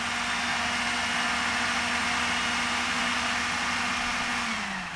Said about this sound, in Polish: Obranie 2 ząbków czosnku było ostatnią czynnością, teraz to wszystko wrzucamy do blendera. Blender zamykam i teraz trzeba to wszystko razem zblendować na gładką masę.